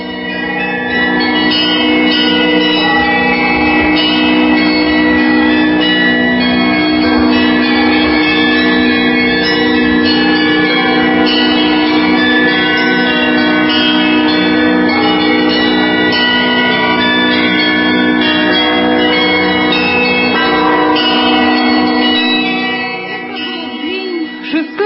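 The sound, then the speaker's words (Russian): Church bells peal continuously and loudly across the cities of the Russian Empire, including Saint Petersburg and Moscow, many overlapping chimes ringing together in a dense, steady clangor for the whole stretch, with no voices heard. “И вот совершенно неожиданно, как на Пасху, сначала в столице Санкт-Петербурге, а потом в Москве, а затем по всем городам и весям и деревням, раздался колокольный перезвон.”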